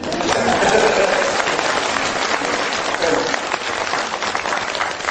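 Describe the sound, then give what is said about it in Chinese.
An audience claps together at the speaker's request in a dense, steady burst of applause lasting several seconds, loud and even throughout with a slightly fuller swell near the start. “我看下面来了很多，鼓鼓掌吧。”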